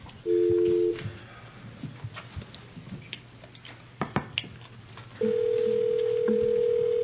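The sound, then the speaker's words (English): A brief electronic phone tone beeps, then a quiet stretch of faint clicks and taps as a number is dialed, followed by a long steady ringback tone on a phone line, as a call is placed to Sheriff Daniels. “We'll get Sheriff Daniels on the phone.”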